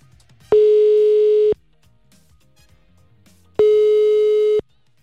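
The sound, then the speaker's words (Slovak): Two long, steady telephone ringback tones, each about a second, separated by a few seconds of quiet line hiss, as a Rádio Melody host calls his former primary-school class teacher and waits for her to pick up. “Spomínal som, že sa z Rádia Melody spojím s mojou bývalou triednou zo základnej školy.”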